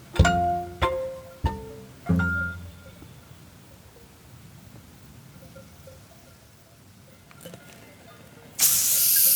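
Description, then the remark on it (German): A few bright glassy clinks ring out, then after a quiet pause a bottle of tonic water is opened with a sudden, loud fizzing hiss that continues to the end. “Tonic. Oh, Tonic sogar.”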